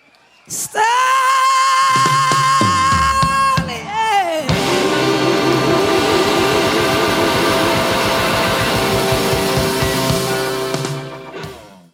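A live rock band recording from 2015 holds a long, bright sustained note, then crashes into a loud, dense final flourish with cymbals and crowd whoops, ringing out until it cuts off.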